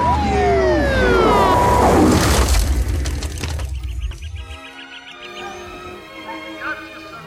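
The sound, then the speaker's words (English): A loud police siren wails in sweeping rises and falls over a heavy, rumbling roar, then settles into steadier tones as the noise fades somewhat toward the end. “A siren drowned Jack's reply.”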